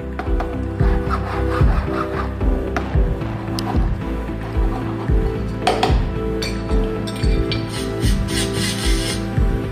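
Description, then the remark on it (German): A goldsmith files and polishes a cast gold ring made from gold recovered from scrapped mobile phones, giving it the final finish: steady, rhythmic rasping strokes with a low hum underneath, punctuated by occasional small metallic clinks, with no voices. “Der Goldschmied feilt und poliert und gibt dem Ring buchstäblich den letzten Schliff.”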